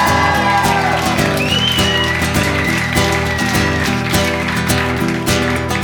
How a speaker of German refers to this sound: Aus Berlin. Rüdiger Bierhaus, Applaus.